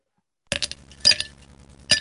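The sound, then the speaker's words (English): Ice cubes clatter into a cup in three bright, clinking bursts, the first after a brief silence, each with a short rattling tail. Fairly loud, with no voices. “Ice cubes going into a cup. Yeah, that was a kitchen noise.”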